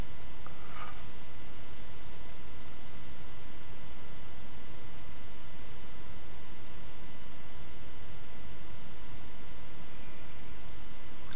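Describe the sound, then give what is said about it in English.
A bath bomb nearly finished fizzing in bath water, held at the top of the water's surface, giving a steady, even hiss of fine crackling bubbles that holds at the same level throughout, with no voices. “So it's nearly finished fizzing now, and then I can finish this boo, upload it and have a lovely relaxing bath.”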